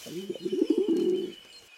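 bird, pigeons cooing

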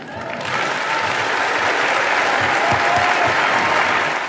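crowd, crowd applauding a speech

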